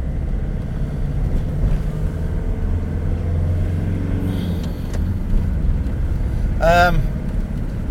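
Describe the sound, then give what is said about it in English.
Constant low rumble of heavy traffic rolling without a break through a village while the A303 is shut, with a brief squealing, harmonic whine of brakes or gears near the end. A voice talks faintly underneath. “They shut the A303, so there's a stack of traffic coming through our village.”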